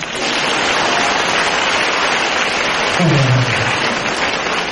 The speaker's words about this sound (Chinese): 鼓掌。